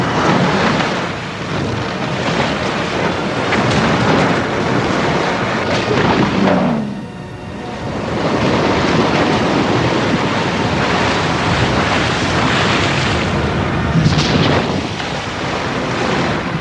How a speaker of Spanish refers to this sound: Mientras, los Ents retiran las protecciones de la presa. ¡Romped el dique! ¡Liberad al río! La presa de la garganta revienta y el río fluye hacia Isengard.